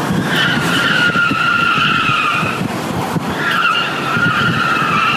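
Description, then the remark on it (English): The bald tires of a truck screech loudly as it simply turns, not peeling out: a sustained high squeal that wavers in pitch, breaks briefly around the middle, then resumes over a rumbling engine and road noise. “And Ray's tires are bald, by the way. Here, this is Ray just turning, right? This is not him peeling out, just turning.”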